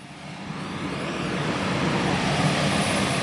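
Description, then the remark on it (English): An airplane engine roars steadily at a sprawling naval air station on Whidbey Island, a broad rushing drone that swells slightly louder over a few seconds, continuous with no voices. “Airplanes continue to come and go on the sprawling naval air station”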